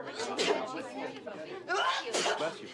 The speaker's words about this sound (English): Walter shakes hands with Cliff and Annie's brother, Dennis, then starts to sneeze.